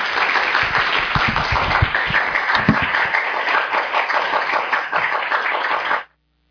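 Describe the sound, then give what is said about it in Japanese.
An audience at a church claps steadily in sustained applause to welcome a guest pastor to speak, a dense wash of many hands lasting about six seconds before cutting off abruptly. No voices are heard. “では拍手で講談にお迎えしましょう。”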